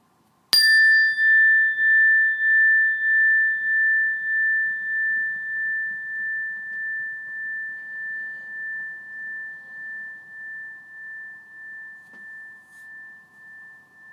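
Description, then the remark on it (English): A single meditation bell is struck once, a bright clear tone that hangs and slowly fades with a gentle pulsing shimmer over more than ten seconds, with no voices. “And when you hear the sound of the bell, just start by taking a few breaths in and a few breaths out and waiting for further instructions.”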